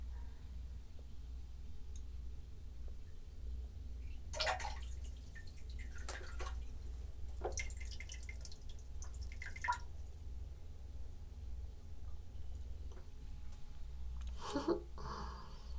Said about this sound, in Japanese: 朝は結構早朝に目が覚めてトイレに来たんだけど、レコーダーを出すのが間に合わなくなりそうなのでおしっこしちゃいました。なので4日目の第1回目はこのおしっこです。聞いてね。